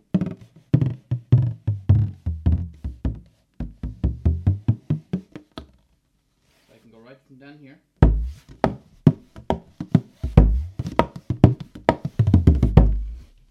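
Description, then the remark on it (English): A baron hand drum beats a fast, steady rhythm of deep, booming strokes, the right hand playing the rhythm while the left hand moves around the back of the skin to shift the tone, pausing briefly while a man speaks before the drumming resumes. “So I can get a complete range of tones from just my left hand moving around the skin in the back and my right hand playing the rhythm.”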